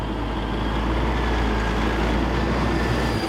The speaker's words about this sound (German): Gerade kommt am Vion-Schlachthof in Landshut ein LKW mit Schweinen an.